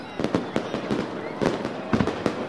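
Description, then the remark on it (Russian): Fireworks burst in a rapid, uneven volley of sharp booming cracks, about a dozen pops in under three seconds, loud over a steady crackling background. “И для третьего класса это батареи салютов, ракеты, римские свечи, фестивальные шары.”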